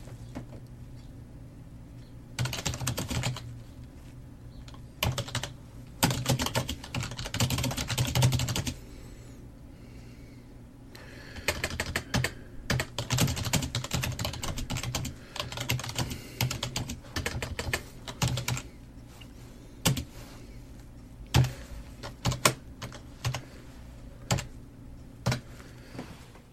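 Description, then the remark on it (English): Typing on a computer keyboard while responding to a message, rapid clattering keystrokes in bursts with short pauses, one longer pause midway, continuing steadily for nearly half a minute with no voices. “Here's another example that I recorded here. Typing on a keyboard.”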